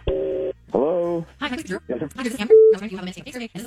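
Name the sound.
telephone call being dialed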